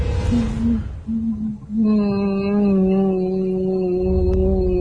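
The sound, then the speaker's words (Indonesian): A creature wrapped in white cloth lets out a long, mournful wailing cry with a wavering, harmonic-rich tone, starting in short broken sobs and then rising into a sustained, strained howl that sounds pained, with no speech. “Dan mengeluarkan suara tangisan seperti kesakitan.”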